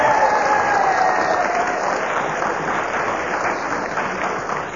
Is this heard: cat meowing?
no